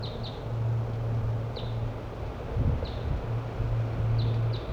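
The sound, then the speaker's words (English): Wild birds coming in give short, high, downward-slurred chirps, about half a dozen at irregular intervals, over steady wind rumble and a low droning hum, recorded with a parabolic microphone shielded from the wind. “I believe we got wild birds coming in now.”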